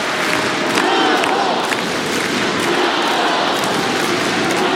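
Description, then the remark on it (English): A large tennis crowd at a match involving Świątek cheers and roars steadily at a break point in the second set, a dense, loud wall of voices with scattered shouts and whistles rising above it, no pauses or quiet moments. “God, listen to the crowd now.”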